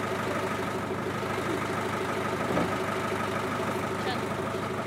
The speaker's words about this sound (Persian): بعد صدای ماشین بستنی فروشی رو شنیدم.